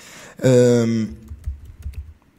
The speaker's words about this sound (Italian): Se sentite dei tasti, c'è un motivo. Il motivo è che sto digitando io.